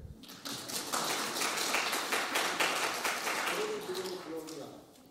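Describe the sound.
A short round of applause from a small group, quick dense clapping that holds steady for several seconds, with a voice briefly audible near the end as it fades.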